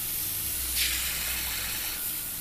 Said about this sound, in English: runs the water and waits for the perfect temperature.